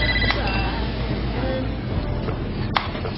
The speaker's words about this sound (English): The bat phone.